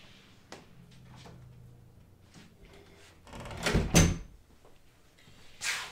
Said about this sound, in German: ich mach mal schnell ganz kurz die Tür zu.